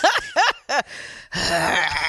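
Heavy, strained breathing of a woman during yoga: three quick voiced gasps followed by longer rasping, effortful exhales, loud and with no talking.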